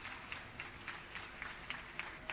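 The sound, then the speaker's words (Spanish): A crowd applauds the Ballet Municipal and Comedia Municipal in a steady wash of clapping, with brighter claps popping out at a regular, even beat, as if many hands are clapping in time. The sound is fairly soft throughout. “¡Arriba ese aplauso!”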